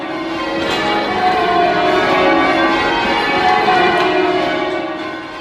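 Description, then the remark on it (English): A full peal of tower bells rung by a team of bell ringers standing in a circle facing each other, overlapping tones ringing out continuously and loudly across a city with a rich, shimmering wash of sound and no voices. “I saw the bell ringers stand in a circle, facing each other, and then they rang out this glorious noise right across the city.”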